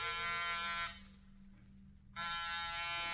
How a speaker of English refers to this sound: Get off the buzzer.